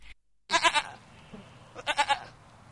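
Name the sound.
sheep bleating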